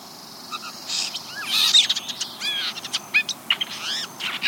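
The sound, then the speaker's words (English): A blue jay sings softly: a quiet, rambling run of high chirps, squeaky whistles and clicks in irregular bursts over a faint steady hiss, with no talking. “Quietly, the bird extends its head slightly forward, slowly turns it from side to side, and begins to softly sing.”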